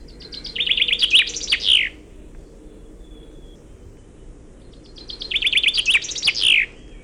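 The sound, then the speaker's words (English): A finch sings two bright, rapid trilling phrases a few seconds apart, each ending in a quick, distinctive flourish, a Walserzang (Wallonian or French song) ending rather than a suskavit, with a low steady rumble underneath and no talking. “Finconeers call this a Walserzang, or in English, a Wallonian song, or a French song.”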